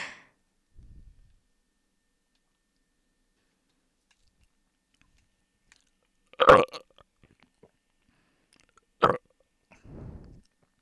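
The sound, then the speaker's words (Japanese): A close, wet burp bursts out loudly, then a shorter second one follows a few seconds later, with a low, throaty rumble trailing at the end amid otherwise quiet. “こんなゲロみたいなゲップでも興奮するんだ君。”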